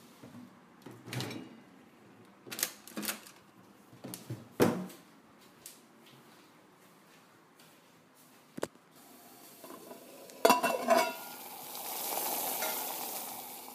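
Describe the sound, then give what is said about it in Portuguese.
Food sizzles in a frying pan, a steady crackling hiss that swells and grows louder toward the end, following earlier clatter and knocks of kitchen utensils and cupboards. No one speaks. “você tá de olho nessa panela aqui, sô?”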